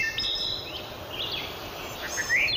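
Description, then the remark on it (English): A thrush sings a few short, high whistled phrases over a steady outdoor hiss, with no voices present. “McGraw suspects thrushes could play an important role in helping ginseng survive by helping them migrate from their warming regions into cooler climates, if the birds themselves can survive.”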